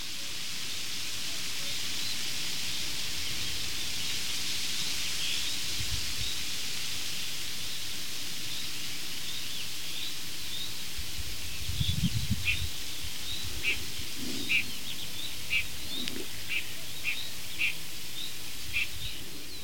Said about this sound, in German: Und El Zorro, der Quäker, oder auch Neuntöter genannt, mit seinem Quack, Quack, Quack Ruf, der schon jetzt ein bisschen schneller vorgetragen wird, also schon ein bisschen aufgeregt ist, weil er sitzt nämlich ganz, ganz weit oben auf einer